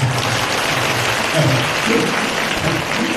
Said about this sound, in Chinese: 其实呢，这些方法你们鼓掌啊，不是，我说你们鼓掌啊，鼓得太早了。